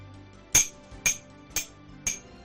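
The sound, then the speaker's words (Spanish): A hammer strikes four times in a steady, evenly spaced rhythm, each blow sharp and ringing with a metallic edge, fairly loud against a quiet background. “Así, como si un martillo golpease tu cabeza constantemente durante días y días.”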